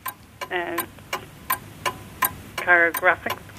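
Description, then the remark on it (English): A quiz countdown clock ticks steadily and crisply, roughly three sharp ticks per second, timing a 60-second round of quiz questions, while brief bursts of a voice speak underneath in the background. “60 seconds on the clock starting from now.”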